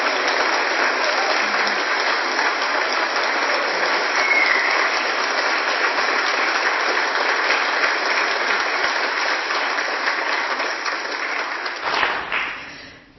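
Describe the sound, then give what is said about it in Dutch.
An audience applauds a departing musician at the end of his last concert, in a dense, steady wash of clapping that holds at a fairly loud level for about twelve seconds, then quickly tapers off and stops. No one speaks over it. “Zullen we hem even uitluiden met een applaus.”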